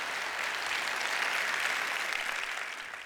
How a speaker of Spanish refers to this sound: Y Dios se habló de un aplauso al Señor, que Él se lo merece. Amén.